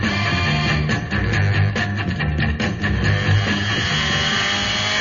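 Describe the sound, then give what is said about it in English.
The Batmobile's engine roars steadily and loudly, with a low rumbling hum and some rising surges as it accelerates after the Joker's car, filling the whole clip without any voices. “Come on, Robin. The Batmobile. After him.”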